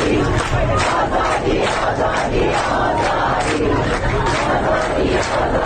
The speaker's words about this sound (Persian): گروهی معترض به قطع پی در پی آب و برق مقابل استانداری تجمع کردند و شعار دادند.